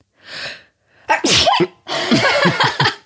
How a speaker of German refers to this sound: Ich hasse das auch, ey, wenn Leute niesen. Furchtbar. Oh, das ist so schlimm.